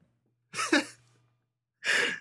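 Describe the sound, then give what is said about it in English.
A person sneezes once: a quick, breathy intake rises into a pause, then a sharp, hissing burst of air. No one speaks. “Oh, wow, that sneeze is so much better than Raw.”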